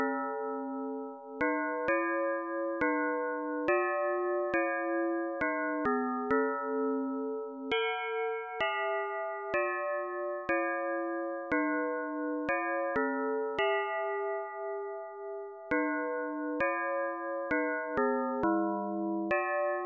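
The upper voice of a four-voice melody played slowly on synthetic bell-like tones, one note at a time with sharp strikes and sustained ringing partials, each note held for a second or more, steady and alone without any voices.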